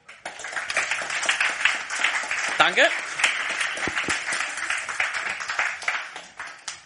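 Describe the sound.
An audience breaks into steady applause, dense overlapping claps filling the room for several seconds at a fairly loud level, with a brief spoken voice heard over the clapping.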